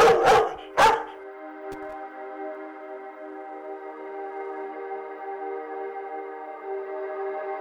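Two sharp, loud dog barks ring out close by, then give way to a long, steady, tonal howl that holds for several seconds. No one speaks.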